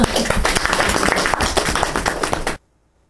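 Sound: audience applause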